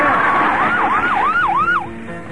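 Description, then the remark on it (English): A police siren yelps in quick, repeated rising-and-falling sweeps, loud and approaching, with steady traffic-like rumble underneath before it cuts off near the end. “I hear them coming, Master.”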